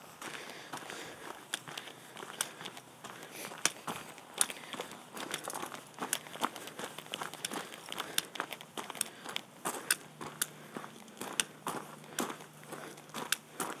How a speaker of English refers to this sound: Okay, this is a rather silly boo, I grant you, but at least you got to hear the horses running to say hello.